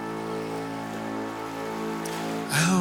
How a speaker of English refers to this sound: In a lonely field, the rain lashes an abandoned train.